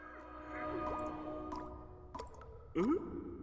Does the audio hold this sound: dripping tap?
yes